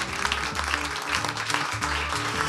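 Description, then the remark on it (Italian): An audience in the Auditorium Demetrio Stratos of Radio Popolare claps steadily on a rainy evening at the show Il suggeritore Nightlife, a dense, crackling wash of many hands that stays loud for the whole stretch, with a low sustained tone faintly running underneath. “Fatevi un applauso, che è una serata piovosa.”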